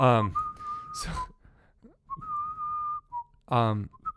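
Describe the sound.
Someone whistles a slow Star Wars film-theme melody in clear, sustained notes with a brief pause between phrases, framed by short bursts of voice or laughter at the start and end.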